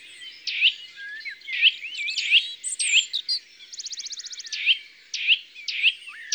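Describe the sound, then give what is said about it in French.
A Eurasian nuthatch gives loud, ringing tuit notes repeated in a steady series, with a quick rapid trill midway and other small birds chirping faintly in the background. “C'est tuit, tuit, c'est la citelle. Encore un chant simple et répété.”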